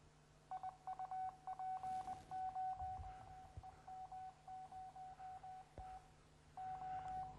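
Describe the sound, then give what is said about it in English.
Morse code tones, as used by ham radio operators to communicate: a single steady-pitched beep keyed on and off in a brisk pattern of short dots and longer dashes, clear and fairly loud over a faint background hum. “This is what Morse code sounds like.”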